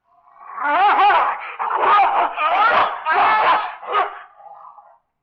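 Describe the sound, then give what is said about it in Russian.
A dog snarls and growls fiercely as it attacks and mauls a man to death, in a rapid run of loud, ragged bursts with no speech, for about five seconds before breaking off. “Его загрызла собака.”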